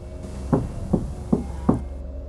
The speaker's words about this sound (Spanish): Cuando tocaron, me di cuenta de que no era mi imaginación. No estaba soñando.